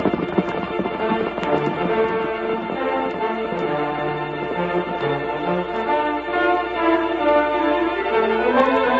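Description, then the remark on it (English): Hooves of saddled horses, ridden by a sheriff and his men, clip-clop in a quick, steady rhythm, mixed in with loud, dense orchestral music that carries on throughout, with no voices present. “Watch out for the horses!”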